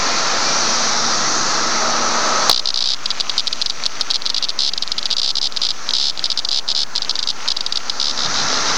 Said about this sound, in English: That was a male cicada up close. He didn't harm it. He just picked it up by the wings, and it started making noise while it was wiggling its...